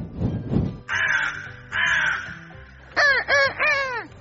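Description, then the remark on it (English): A crow that has taken a spoon caws five times: two long, harsh caws followed by a quicker run of three shorter, rasping calls, preceded by a couple of low thumps and no talking. “Crow took the spoon”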